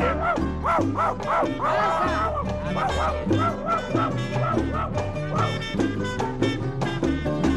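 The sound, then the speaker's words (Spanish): A dog barks and yelps in a string of short, high yips over steady instrumental music, the calls coming close together and fairly prominent throughout. “y en ese mismo momento brinca y me muerde la perra.”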